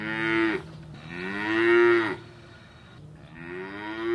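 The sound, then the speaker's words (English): Dairy cows on a farm in Wakanda, Illinois, being taken down to the milking parlor moo loudly, three long drawn-out bellows in a row with short pauses between them, with no voices present. “Here at Golden Oaks Farm in Wakanda, Illinois, the dairy cows are taken down to the milking parlor.”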